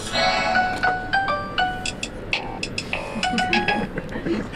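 A young woman's new cell phone in Tehran, Iran, plays a very teenage ringtone, a quick, bright electronic melody of stepping tones for several seconds, fairly loud, over a steady hiss of background noise.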